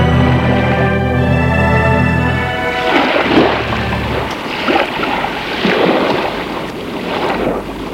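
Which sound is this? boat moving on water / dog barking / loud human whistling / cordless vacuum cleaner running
boat moving on water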